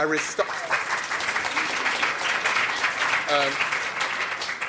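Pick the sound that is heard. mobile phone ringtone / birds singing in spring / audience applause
audience applause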